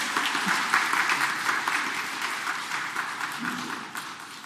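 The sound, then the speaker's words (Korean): A crowd claps steadily for several seconds, a dense, even wash of many hands applauding together to welcome elderly residents of Taegeuk Village arriving late by bus, tapering slightly toward the end. “우리 환영의 박수 한번 보내드릴까요?”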